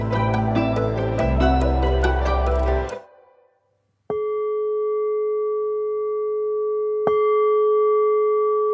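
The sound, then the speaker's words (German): Music fades out, then a meditation gong marking the start of a guided meditation is struck twice, a few seconds apart. Each strike rings with a steady, sustained bright tone that hangs in the air. No one speaks. “Alles Weitere, was Sie machen müssen, erklärt Ihnen jetzt der Christian Fein nach dem Gong.”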